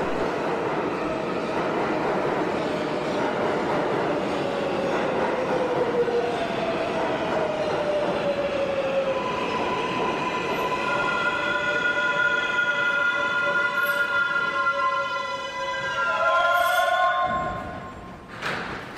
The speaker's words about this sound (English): I think I hear the train finally coming. Here it comes.